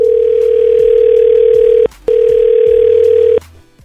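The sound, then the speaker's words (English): A telephone line tone sounds as 99.9 Virgin Radio hosts place a call: two long, steady, mid-pitched tones, each almost two seconds, separated by a brief gap, then quiet line noise. “So let's call him.”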